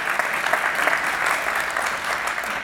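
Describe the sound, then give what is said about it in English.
A crowd applauds steadily, a dense wash of clapping hands that stays even and sustained for a few seconds, with no voices standing out. “Give Glenn a round of applause.”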